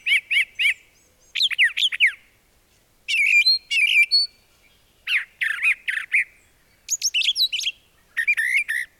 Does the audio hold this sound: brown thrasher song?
yes